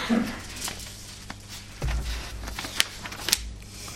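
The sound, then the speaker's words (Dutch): Pages of a Bible being turned to Leviticus 25, with soft rustling and a few crisp paper flicks and snaps spread over several seconds; no one speaks. “50, gaan we even naar Leviticus 25 toe. Bladzij omslaan.”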